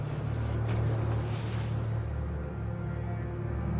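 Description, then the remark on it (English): A small boat's engine drones steadily as the boat motors in to dock, a low continuous motor hum with a faint tonal whine, holding even throughout with no voices. “pilots the small boat to dock.”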